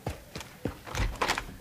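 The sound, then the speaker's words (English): A door being opened: a few knocking clicks and rattles from the latch, then a brief scraping swish as it swings, with no voices. “Open the door!”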